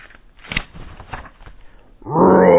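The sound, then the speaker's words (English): Quiet rustling and scuffling give way to a sudden, loud lion roar that swells and holds through the end. “Mouse sits up. He follows that roar.”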